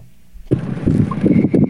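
After a brief near-silent moment, a loud rush of churning water and engine rumble takes over as a small runabout boat cuts across the water with wind buffeting around it.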